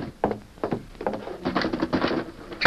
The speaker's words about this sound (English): I'll close the door. All right, come on, hurry.